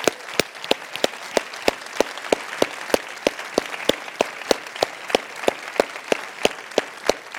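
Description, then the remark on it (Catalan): An audience at Sitges applauds steadily for all the public attending, nearly 120,000 spectators, a dense wash of many hands clapping at an even, moderately loud level, with sharp individual claps standing out in a regular rhythm throughout. “O sigui que us podeu imaginar com estem d'emocionats i d'agraïts, i per això us demanem un fort aplaudiment per tot el públic que ens acompanya i que ens ha acompanyat aquests dies.”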